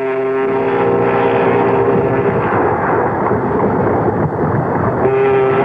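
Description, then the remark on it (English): A loud, steady engine rumble of a ship under way at sea, bound for America, fills the whole stretch, joined by a low, sustained horn-like tone at the start and again near the end. “Then, at last, they were on their way back to America by boat,”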